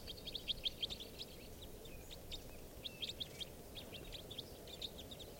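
Type 4 crossbill calls: brief, sharp high chips in quick clusters of three or four, repeated several times over a steady low rumble of wind-like background noise. No voices.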